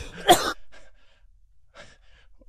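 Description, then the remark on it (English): A single sharp, loud cough bursts out, followed by quieter breathy sounds and faint rustling as the person recovers. “I'm still coughing.”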